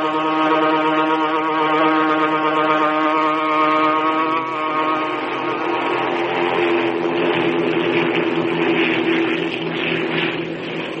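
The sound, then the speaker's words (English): Steady, droning propeller engines of an eastbound transport plane in flight, a loud continuous hum with stacked tonal harmonics that waver slightly in pitch, with no voices. “Aboard the eastbound transport plane.”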